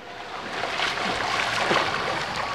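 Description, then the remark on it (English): Continuous watery splashing and sloshing, like bodies moving through a swimming pool, steady and fairly loud throughout with no voices. “You're in the swimming pool.”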